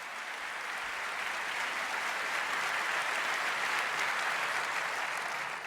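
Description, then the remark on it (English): A crowd applauds presenters being introduced, clapping steadily for several seconds, a dense, even wash of many hands applauding with no voices standing out, sustained at a moderate level from start to finish. “So give them a large round of applause, please.”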